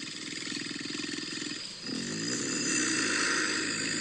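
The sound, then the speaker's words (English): A human voice imitates a beast's growl: a low, rough, rumbling roar held for about four seconds, loud, with a brief catch midway before it swells again. “So this is the growl that I hear.”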